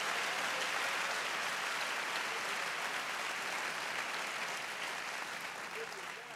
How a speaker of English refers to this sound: If you're a church planter in this building, I want you to stand up real quick. Can we clap our hands for these great men and women of God?